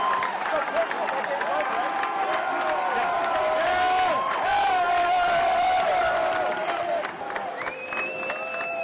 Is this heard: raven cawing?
no